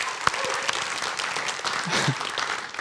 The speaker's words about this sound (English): And I'm glad you're clapping because some people are like, why in the world are you giving away $100,000 when we're trying to find the future home of Trace Church?